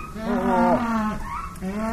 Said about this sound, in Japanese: え、これ銀ペンの鳴き声？ 銀ペン違うのかな、あれ。